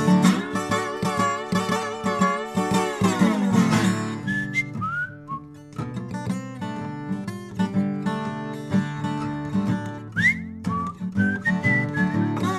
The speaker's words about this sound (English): Oh, you didn't know I could whistle, baby?